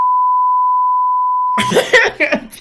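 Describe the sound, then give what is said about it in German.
A steady, high-pitched censor bleep tone holds for about a second and a half, then cuts off as a voice starts talking. “Nein, das musst du alles wegpiepen.”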